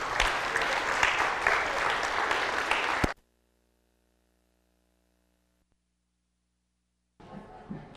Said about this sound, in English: Did you guys like that? Was it fun? Should we give another round of applause? That was great. Thank you very, very much.